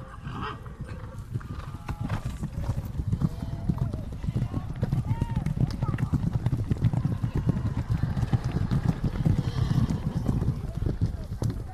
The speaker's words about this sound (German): Den Zuschauern selbst bietet sich ab und an ein magisches Bild, wenn die Reiter auf ihren Pferden aus Lichtungen auftauchen und an ihnen vorbeirauschen.